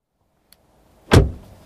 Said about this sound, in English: I thought I heard the car.